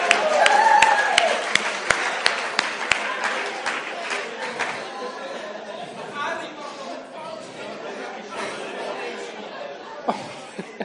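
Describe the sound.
An audience claps, sharp scattered hand claps that are loudest in the first few seconds, over steady crowd chatter and a little laughter. The clapping thins out while the murmur of voices continues.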